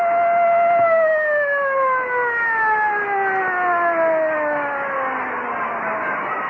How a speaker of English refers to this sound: Siren moaned the stillness.